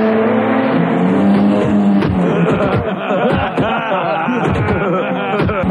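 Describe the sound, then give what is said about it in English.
Jet ski engines roar loudly and without pause as jet skiers head toward a group of men, their buzzing whine climbing and dipping in pitch as several motors rev and overlap. “Jet skiers are headed right for a herd of men.”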